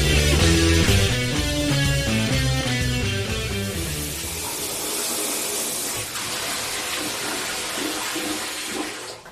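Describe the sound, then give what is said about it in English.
A short burst of music gives way to the steady hiss of running shower water that continues unbroken to the end, with no one speaking. “You know, Chad, the water's just dripping off my body right now.”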